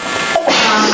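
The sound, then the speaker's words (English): A person sneezes once during a public meeting session, a short, loud burst of breathy noise with a brief catch of breath before it. “Bless you.”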